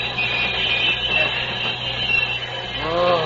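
An old train rumbles steadily along the track with a constant low hum and a hissing rattle, and a brief rising wheel squeal cuts in near the end. No one speaks.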